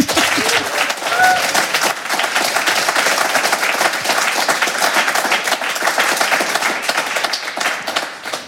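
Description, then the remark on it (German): A crowd applauds steadily and fairly loudly for several seconds ahead of a reading by Raul Krauthausen, many hands clapping in a dense, continuous patter with a few faint voices mixed in. “Vielen Dank fürs Gespräch und voller Vorfreude auf die Lesung von Raul Krauthausen spendieren wir dir jetzt einen kleinen Applaus.”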